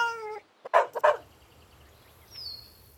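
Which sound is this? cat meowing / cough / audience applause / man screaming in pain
cat meowing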